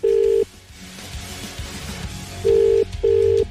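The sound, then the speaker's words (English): Outgoing telephone ringback tone of a call from Ray Foley of Today FM: a steady mid-pitched tone pulses once, then after a pause repeats as a quick double ring, clear and fairly loud over a faint background hum. “It's ringing.”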